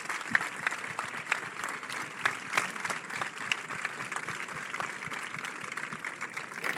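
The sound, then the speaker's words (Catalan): A crowd in Sitges applauds the town's primary schools, invited to light the 21 morterets of Santa Tecla; a dense wash of many hands clapping at once with occasional sharper individual claps standing out, holding a fairly even level throughout. “Un aplaudiment per totes elles.”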